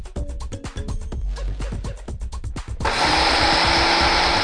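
A grinder churns thick batter of 1 cup of urad dal soaked overnight, for making Mysore Bonda, with a lumpy, stuttering motor rhythm, then the pitch jumps into a loud, steady high whir of continuous grinding. No one speaks.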